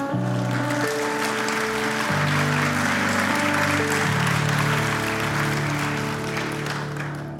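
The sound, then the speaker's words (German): A crowd claps steadily for several seconds for one person, a dense wash of applause that fades slightly at the end, with sustained keyboard chords playing underneath. “Ein Applaus für dich.”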